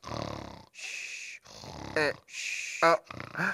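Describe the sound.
A voice imitates snoring: a few rasping inhale-exhale cycles, some with harsh buzzing and brief high squeaky whistles, fairly loud and alone with short pauses between.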